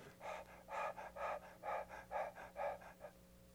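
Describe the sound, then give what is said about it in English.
A person imitates a deer panting to cool off: about seven quick, breathy huffs in a steady rhythm, soft and airy, with no talking. “Deer, the way they cool off like a dog, they pull the cooler air to cool their tongue, all the blood that goes through their tongue and into their lungs.”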